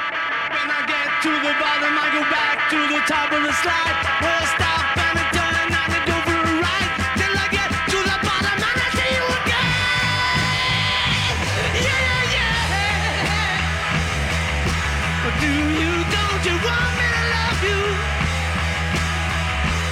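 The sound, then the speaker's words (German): A loud, raw rock recording plays for the whole stretch, with crashing drums, thick distorted guitars and a gritty, shouted vocal, dense and noisy from start to finish. “Ich will auch den dreckigsten Song machen und das können wir auch. Und dann haben die … einen rotzdreckigen Song gemacht”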